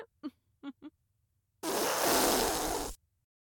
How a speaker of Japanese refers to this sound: どう？女性のお尻に敷かれておならされるって。